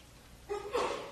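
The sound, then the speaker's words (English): A single short sneeze, fairly faint: a quick voiced intake followed by a breathy, hissing burst, with no talking around it. “Bless you.”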